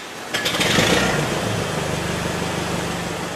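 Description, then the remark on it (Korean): An old Ford Model T four-cylinder, 20-horsepower car engine revs up sharply, then settles into a steady, rough chugging idle, loud, with no voices. “4기통 20마력짜리였습니다.”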